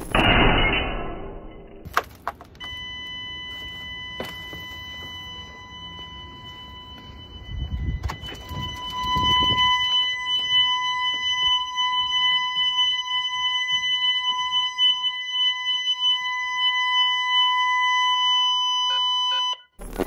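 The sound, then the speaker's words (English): A brief burst of clattering noise gives way to a glass-break alarm blaring a steady, piercing electronic tone. It holds loud and unbroken for about seventeen seconds, then cuts off abruptly. “The reason you want glass breaker alarms is if somebody tries to break the glass, it sets off an annoying loud sound, and that'll notify you something's going on.”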